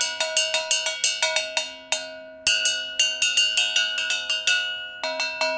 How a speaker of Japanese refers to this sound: ここ穴が開いてるでしょ。 お これは先輩のね、ベテランの方が工夫したちょっと大きな鐘ですけども、 はい、本当だ。